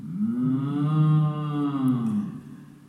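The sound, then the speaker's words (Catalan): A single long, low cow moo with a rich harmonic tone, swelling slightly in the middle and tapering off near the end, heard clearly with no talking. “De vaca.”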